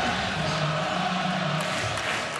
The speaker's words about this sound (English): Carpenter and his team are the reason you can clearly hear sounds like the amped-up Kansas City crowd.